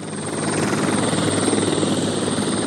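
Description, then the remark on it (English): Loud helicopter noise as it flies over the Magdalena River in Colombia: a steady roar of engine and rotor with a fast rhythmic chop throughout, and no voices. “Sasueta flew over the Magdalena River in a helicopter for an aerial view of the hippos”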